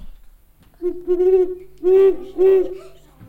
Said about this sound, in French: Un hibou. Une chouette. Un hibou.